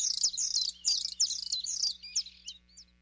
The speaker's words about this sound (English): The song presses on and on. Spring has come to the Arctic. The birds' voices make it known.